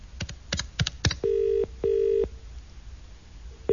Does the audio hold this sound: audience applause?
no